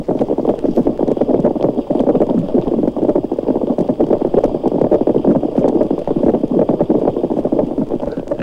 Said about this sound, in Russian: Рыба-корова не намного больше карандаша, а слышите, как ухает, будто сваи забивает.